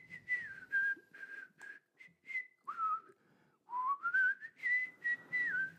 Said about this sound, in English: Now wish me luck, I said as I turned to wander down the road to the house, whistling my jolly tune.